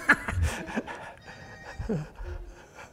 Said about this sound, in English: It's my wife's phone.